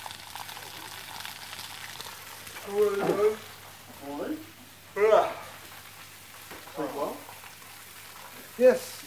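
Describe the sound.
A steady crackling sizzle of bacon frying runs throughout, with several short bursts of voices cutting in over the hiss.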